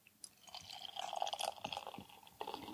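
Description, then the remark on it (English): Bells beer glugs and splashes steadily as it's poured from a 16-ounce can into a glass for a couple of seconds, fairly quiet, with a bubbly, rising fill sound and no talking. “You get second pour, middle pour.”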